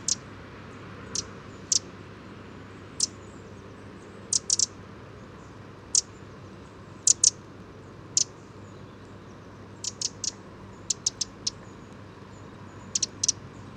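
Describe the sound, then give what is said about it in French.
A Eurasian wren's alarm call: sharp, dry ticks repeated irregularly, singly or in quick clusters of two or three, over a steady soft outdoor hiss, with no voices. “Encore une alarme de troglodyte mignon, c'est qu'il chante pas.”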